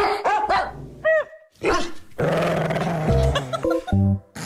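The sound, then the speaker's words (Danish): Several dogs bark loudly and repeatedly, with overlapping yips and a low growl mixed in, a busy, echoing chorus of agitated barking with no voices, in a local dog kennel. “Vi skal en tur i den lokale hundekennel. Og det skal vi, fordi der er ankommet 3 nye hunde ind”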